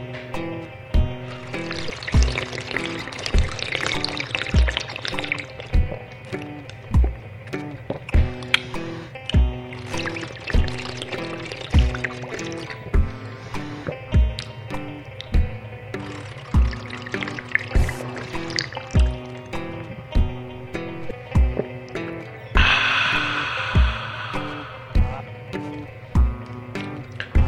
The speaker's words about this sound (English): I would let the water run for about 2.5 minutes, of course. And then I would sink my head back and guzzle the water back into my throat like this.